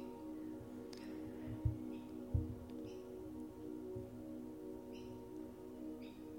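Faint birds chirp in brief, scattered bursts over a steady, humming musical drone, with a couple of soft low thumps early on.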